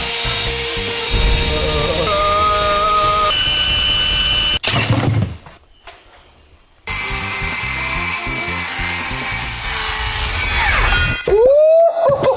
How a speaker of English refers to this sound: Whoa! I got a drill from my workshop. All right, let's drill this thing.